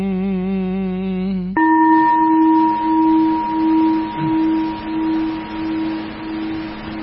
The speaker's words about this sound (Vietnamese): Lắng lòng nghe, lắng lòng nghe tiếng chuông huyền diệu đưa về nhất tâm.